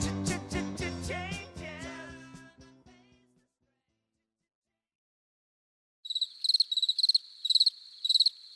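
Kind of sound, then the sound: insect, crickets chirping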